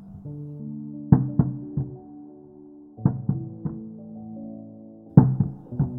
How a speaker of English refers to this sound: The knocking again. Longer. More pronounced, like a big dog running across the hallway above.